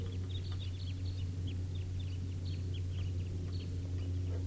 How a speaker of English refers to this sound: Sounds like another big flock. About 17 birds. Or maybe 20. And this is the wild flock.